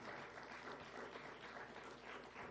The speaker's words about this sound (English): I want everybody, I want you to amen him. I want you to clap your hands for him tonight.